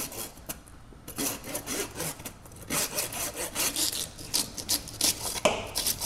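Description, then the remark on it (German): A larger saw grinds back and forth through the ribs of a dead boxer-mix dog as a student team dissects it in a pathology institute, in steady, rhythmic strokes, each pass a harsh rasping burst, fairly loud with no talking. “zerteilt nun die Rippen des Boxermischlings. Eine größere Säge kommt zum Einsatz.”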